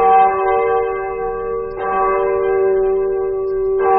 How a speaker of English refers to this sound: Well, that's easy. It's a bell.